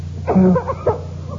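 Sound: coughing fit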